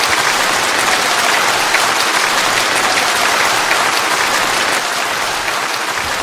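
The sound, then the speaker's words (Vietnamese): A big round of applause from a large crowd at a Buddhist ceremony, given in gratitude to a visiting venerable monk: dense and steady clapping that stays loud and sustained for the whole stretch with no talking. “Xin đạo tràng hãy cho một tràng pháo tay thật lớn để tri ân trên thượng tọa đã thương tưởng từ bi mà về đây chứng minh trong buổi lễ hôm nay.”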